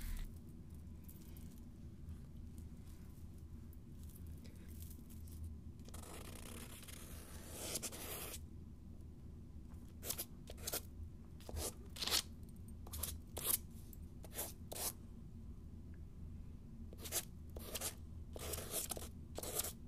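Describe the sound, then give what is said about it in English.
A pen scratches across paper while symbols are drawn, in short, irregular strokes with one longer scribble partway through, then a quick run of brisk marks. It is fairly quiet over a low steady hum, and nobody speaks. “I'm just gonna draw the symbols on some paper.”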